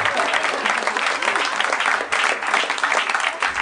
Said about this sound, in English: Seems like a good time to give him a round of applause.